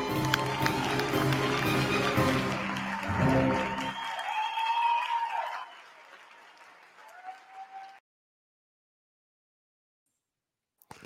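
Audience applause for two participants after a card trick, bursting out dense and steady for a few seconds, then thinning and fading away with a few faint high whistling tones before stopping into silence.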